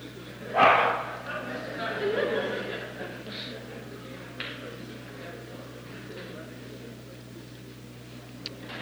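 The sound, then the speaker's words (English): A single sharp bark from one of several dogs present during a lecture rings out near the start, followed by a steady low hum with faint background murmuring and a few small knocks. “Would you please take one of the dogs out, somebody?”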